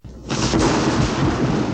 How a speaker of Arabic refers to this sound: الرعد هو مجرد صوت تسمعه قادما بسرعة شديدة من السماء. ولكن يا ماما، لماذا هكذا يكون صوته مخيفا؟ هو ليس مخيفا، لكنك أنت من تخاف منه.